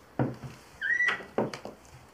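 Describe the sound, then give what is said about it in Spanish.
A knock on a bedroom door, followed by the door opening with a short rising creak and a few dull thumps as someone slowly enters and stops at the foot of the bed, with no talking. “Ahora en el cuarto de Silvia, Epifanía toca la puerta. Entra lentamente y se para al final de la cama.”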